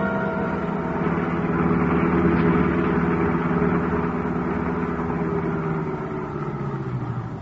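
car engine idling

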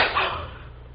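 slap across the face

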